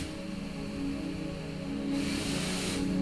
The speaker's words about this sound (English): What is this thing? It's my ventilator, and it helps me breathe